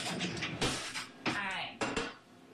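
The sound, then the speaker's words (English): Several sharp metallic clinks and clatters of cutlery as someone gets a spoon, with a voice talking faintly underneath. “Okay, I'm just going to get a spoon.”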